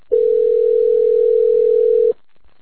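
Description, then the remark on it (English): A phone line ringing on the other end, one steady, loud two-second tone that cuts off into silence, with no voices. “She got the balls to pick up the phone.”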